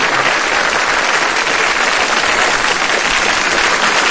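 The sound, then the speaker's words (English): Sustained audience applause for a singer, a dense, steady wash of many hands clapping at a loud, even level throughout, with no pauses and no voices standing out. “No, seriously, clap it up for my man, ….”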